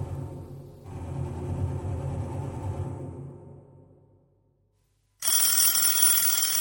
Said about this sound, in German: Mitten in dieser ängstlichen Hektik klingelt erneut das Telefon.